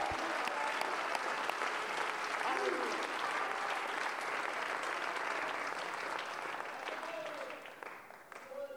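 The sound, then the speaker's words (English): An audience claps together in praise of God, a dense, steady wash of applause that holds strong for several seconds before easing slightly at the end, with faint voices mixed underneath. “Let's clap our hands and lift up some praise unto God.”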